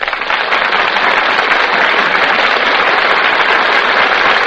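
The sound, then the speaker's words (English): Steady, dense applause from a large studio audience at the Gulf Screen Guild Theater as the stars come out before the footlights and take their places at the microphones, a continuous wash of many hands clapping at a loud, even level for several seconds with no voices over it. “That applause you hear, ladies and gentlemen, tells you that our stars have just come out before the footlights and taken their places at the microphones.”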